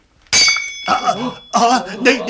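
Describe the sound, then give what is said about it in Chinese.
A sudden, loud crash as a brittle coral ornament is smashed by an iron scepter, with a bright ringing tail. An agitated voice speaks right after the impact. “你打碎我支珊瑚？”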